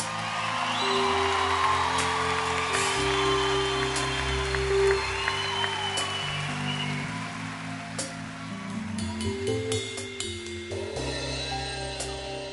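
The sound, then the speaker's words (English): An audience claps steadily for about twelve seconds for the musicians on stage, a dense patter of applause with a scattered whoop, while the band holds sustained low notes underneath. “Everybody give a big round of applause to all the musicians on stage.”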